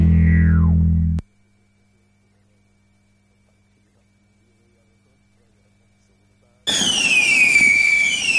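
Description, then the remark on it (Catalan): Fireworks and firecrackers for the Revetlla de Sant Joan boom with a falling whistle, cut off abruptly into a long silence, then a fresh burst of shrill, wavering whistles over crackling, rumbling explosions. “A Manli seleccionem el millor en pirotècnia, bateries, bengales, trons, coets,”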